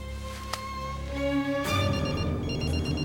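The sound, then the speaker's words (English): A cell phone call being placed by a man shut in a vending room: a click, steady electronic tones, then a faint, rapid ringing pattern that repeats, fairly quiet with no one talking. “Mulder dials on his cell phone. The LCD displays Scully's name and number.”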